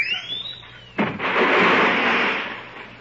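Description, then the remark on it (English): A whistling slide leads into a sudden crash, then an alarm clock packed inside a suitcase to make it heavier rings loudly and continuously, muffled, for a couple of seconds with no voices. “Oh, that must be the alarm clock. I put it in to make it heavier.”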